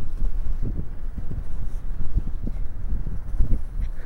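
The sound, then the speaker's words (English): Gale-force wind among sand dunes buffets the microphone in continuous low rumbling gusts, with irregular thumping bursts throughout and no clear speech. “I've got my hood up now, which actually does a pretty good job of shielding me from the wind.”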